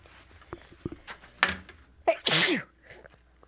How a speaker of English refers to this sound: I hope I'm not sick. It's just sneezes. Or snoffs. Snoffs and sneezes.